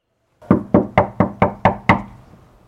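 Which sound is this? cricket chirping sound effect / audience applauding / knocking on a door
knocking on a door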